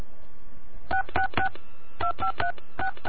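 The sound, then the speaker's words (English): Touch-tone telephone keypad beeps entering a phone number, beginning with area code 666, into Overhead Door Corporation's automated phone line: about eight short two-tone presses in quick clusters of three, three and two, clear and steady over faint line hiss with no talking. “To be connected with your nearest overhead door distributor, please enter your telephone number beginning with area code now. I'm going to enter Satan's area code 666.”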